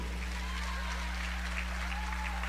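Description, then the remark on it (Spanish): An audience applauds the women steadily, a dense wash of many hands clapping at once over a low, constant hum. “Un aplauso a las mujeres también. Fuerte, apláudanse solas de perdido.”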